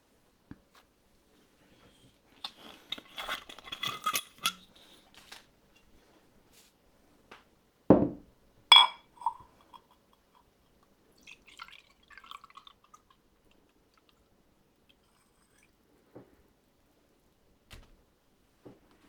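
Awamori is poured into a glass in a short burst of trickling, followed by two sharp clinks of glassware and a few faint sips of awamori and small handling sounds in otherwise quiet surroundings.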